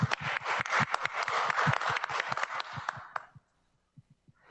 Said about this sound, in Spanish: Muchas felicidades. Un aplauso.